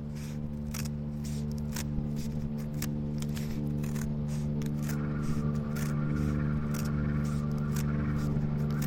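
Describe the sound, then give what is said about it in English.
A student teacher cuts through thick cardboard with real scissors while making crafts, a steady series of short, crisp snips and scrapes, heard over a constant low humming drone with no talking. “The student teacher cuts into the thick cardboard.”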